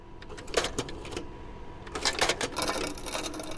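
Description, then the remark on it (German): Clattering keystrokes of an old mechanical typewriter, a quick burst of clacks, a brief pause, then another flurry ending in a rattling carriage sound, fairly loud. “Lehnen wir uns also an dem ganzen Wahnsinn mal kurz zurück und hören in Schleife alte Schreibmaschinen, Kaffeemühlen, Diaprojektoren, Fotoapparate.”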